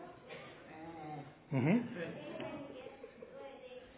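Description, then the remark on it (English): Children's voices imitate sheep while acting as sheep in a telling of the Nativity shepherds story, with one loud, wavering "baa" bleat rising above a background murmur of chatter, followed by softer voices continuing. “Some of you can be sheep. Let's hear sheep.”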